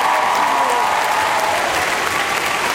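Steady, loud applause from a crowd at a university alumni event, given as another round of applause for two performers. It fills the whole clip, a dense wash of clapping hands with no pauses and no voices breaking through.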